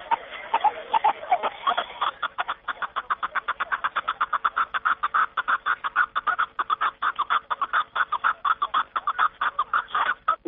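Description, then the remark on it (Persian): A snowcock calls in a long, rapid run of sharp, chuckling notes, repeated steadily at a fast rhythm for about ten seconds, fairly loud, with no voices. “جناب شریفوف همچنین افزود که کپی داری صدای خیلی آرام دارد و زبی کوفتاران است.”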